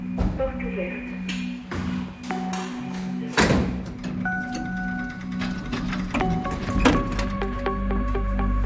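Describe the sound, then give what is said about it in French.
A door opens for a France Inter reporter at a man's boyfriend's home, with a sharp latch clack and some rattling clatter, over a steady low mechanical hum and faint indoor background noise. “Oui, je vais ouvrir.”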